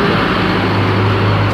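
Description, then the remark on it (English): A FedEx delivery truck's engine idles on a 47-degree October morning, a steady low rumble with a constant hum that fills the whole moment without pause. “beside a FedEx truck.”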